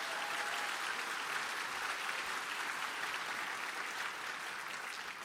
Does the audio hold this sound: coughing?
no